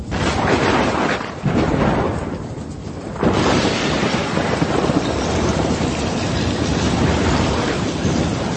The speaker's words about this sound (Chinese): 打起大风喎，哇，啲浪涌晒入隻船入面，差啲搞到隻船要沉啊。 喂喂，唔好再瞓啦，湖上面突然间刮起狂风大浪，船都就快沉啦。